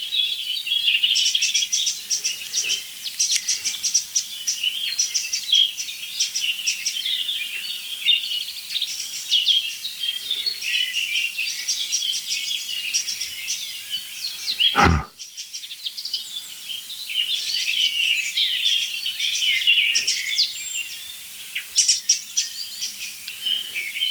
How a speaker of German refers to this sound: Einfach zwei richtig laut schimpfende Vögel. Also zwei Arten.